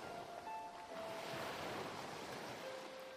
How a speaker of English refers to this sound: Then you exhale, watching as the waves crash against the shore.